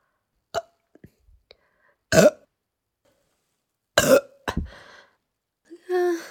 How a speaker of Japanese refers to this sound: 出ちゃった。今なんかおなら出る、おなら出ちゃった。いや、ゲップで、ゲップ出るときに一緒におならもべってなった。